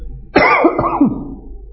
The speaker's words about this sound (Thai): คนหนึ่งไอคนหนึ่งจาม